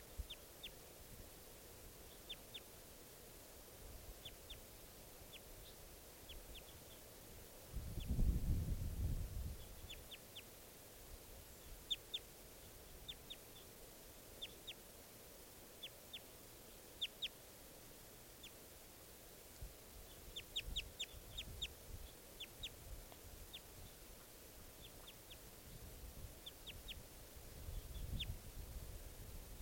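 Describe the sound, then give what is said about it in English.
Wild bird calls: short, high chirps repeating on and off throughout, fairly faint, with occasional low rumbling bursts underneath and no talking. “there's that bird again.”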